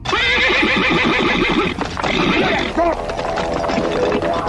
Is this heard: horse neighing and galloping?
yes